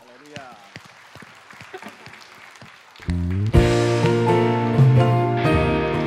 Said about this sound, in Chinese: 一起开始我们的敬拜，哈利路亚！拍手赞美他。